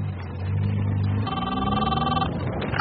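A telephone rings in one sustained electronic burst, clear, over a steady low engine-like rumble that runs through the whole moment.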